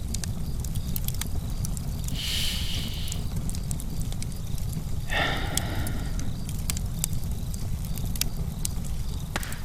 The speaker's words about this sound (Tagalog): Isipin mo lamang ang marikit na apoy sa iyong harapan. Damhin mo ang lagablab na hatid nito.